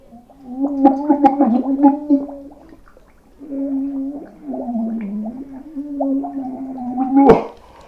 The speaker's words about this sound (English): And we're going to start with sparkling water. Oh my god, it's so bubbly. I've got the bowl of water here and I'm just gonna put my face in it.